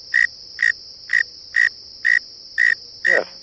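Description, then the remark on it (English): A northern mole cricket sings from its burrow a low, frog-like call, the lowest pitch of the native singing insects in eastern North America: seven evenly spaced pulsing chirps about half a second apart, loud over a faint steady background hum. “It sounds like a frog. It's actually the lowest pitch of all the singing insects. This is a cricket.”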